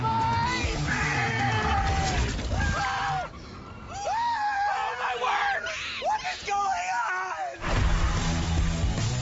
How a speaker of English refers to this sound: Bunch of guys screaming. It sounds like a crazy time with your bros.